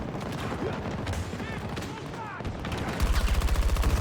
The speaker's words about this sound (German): Ey, habt ihr es gesehen? Der Schuss ist einfach direkt durch den Gegner gegangen.